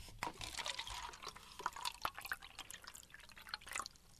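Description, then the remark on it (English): Water pours into a styrofoam cup, filling it about half to three quarters full for an activity: a steady liquid trickle broken by small drips and splashes, moderately quiet, with no talking. “On one of the cups, you're going to fill it up with, maybe half, three quarters full of water.”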